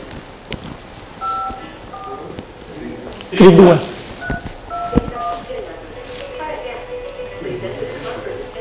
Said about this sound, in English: Put on the speaker and dial. So put on a speaker now. So put on a speaker.